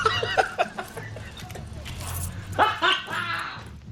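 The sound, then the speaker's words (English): A van's alarm blares a string of electronic dog barks, short yapping bursts in quick succession that grow louder and more clustered toward the end, with a low rumble underneath. “I spent my life savings turning my van into a dog. Hi, Petey. The alarm alone cost me $200.”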